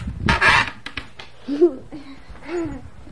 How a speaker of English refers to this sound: A burping door. The door doesn't say excuse me, does it?